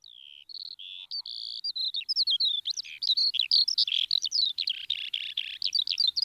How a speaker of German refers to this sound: Silvia Schreiber ist in aller Herrgottsfrüh über die Wiesen gestrolcht, um eine Lerche zu belauschen.